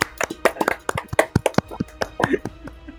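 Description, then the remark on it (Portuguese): A brief round of hand clapping the hosts give for themselves: a quick, uneven flurry of sharp, crisp claps, loud and steady for a few seconds, with a faint murmur of voices underneath. “Uma salva de palmas pra gente mesmo.”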